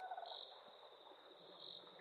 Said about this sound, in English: You can hear there's like frogs and crickets and other insects, so that's the kind of area that this is. I guess a bog would be the best term.